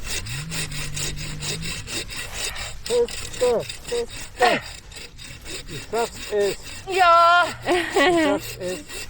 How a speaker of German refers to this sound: Und immer das ganze Sägeblatt benutzen.